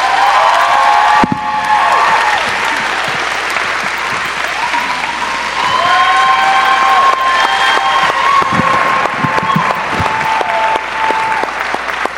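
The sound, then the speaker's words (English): A large festival crowd applauds loudly and steadily in thanks to Dave Anthony for organizing the event, with whoops and cheers rising above the dense clapping throughout, sustained with no pause. “Let's have a big thank you to Dave Anthony for organizing this event.”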